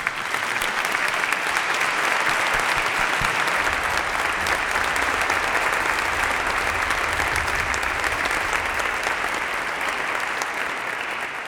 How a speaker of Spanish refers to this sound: Con que me gustaría que les diésemos un fuerte aplauso porque están haciendo una labor enorme.